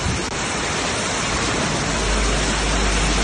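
A loud, steady roar of rushing floodwater from a swollen river in Ampuero, where it has flooded the buildings of the Marrón industrial estate, a dense unbroken wash of churning water that holds constant from start to finish, with no voices.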